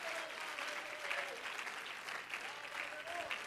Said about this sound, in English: If you love him and you love what he's doing, clap your hands into him and bless his name.